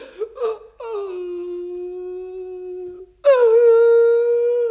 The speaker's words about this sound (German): Das ist doch kein Grund zum Weinen. Ich bin doch auch sichtbar und wein nicht.